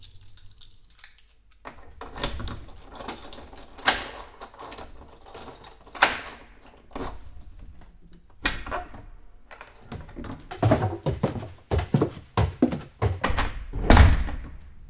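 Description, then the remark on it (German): An apartment door at the top of a stairwell is unlocked and opened, with a series of sharp clicks, knocks and thunks from the lock and handle spread over several seconds, growing busier toward the end. “So, komm, mach auf.”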